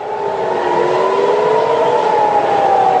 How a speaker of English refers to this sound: Air raid sirens here sounding in Jerusalem earlier this week.